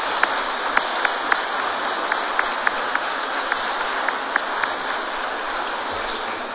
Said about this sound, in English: Can't we turn back and give a very good hand of applause to the choir? Thank you very much to the choir.